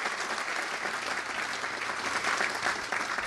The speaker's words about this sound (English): Oh, yeah, that's worth applauding.